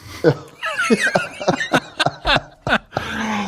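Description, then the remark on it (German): A run of about eight short, sharp coughing bursts in an irregular rhythm, with breathy, voiced sounds between them that almost resemble laughter. “Ich muss immer husten.”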